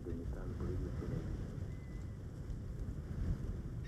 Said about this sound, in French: Le vent emmêle nos cheveux.